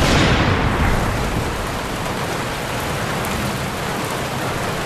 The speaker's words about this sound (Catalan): La pluja, els trons, perquè clar, abans has dit també, doncs, que la teva vida...